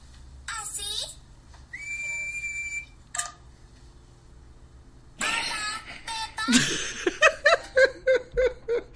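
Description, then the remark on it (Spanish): Breathy, airy blowing sounds of Suzy Sheep in Peppa Pig trying to whistle while still learning and not yet able to, with a thin, wavering whistle tone, followed by a burst of rhythmic, bouncing giggles. “Aprendo a silbar, pero todavía no puedo.”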